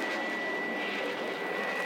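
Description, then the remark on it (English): A robot jet plane roars past at supersonic speed in a chase through the skies over New York, a loud, steady rushing engine noise with a thin high whine running through it, continuous with no voices. “Faster, faster, robot plane. Must catch up to”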